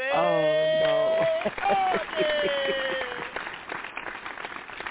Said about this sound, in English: give me that clap now